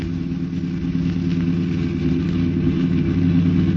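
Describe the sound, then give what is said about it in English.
A car engine drones loudly, a steady low rumble that holds its pitch for a few seconds as the car drives on to pull up alongside another car and force it to the curb, with no voices. “Well, pull up alongside and force him to the curb.”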